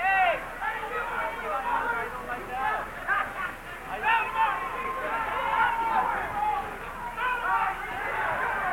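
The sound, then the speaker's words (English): A dense crowd commotion with overlapping shouting voices and agitated chatter, steady and fairly loud throughout, as people rush together and some are knocked down. “There's a rush of people. Some people were knocked down.”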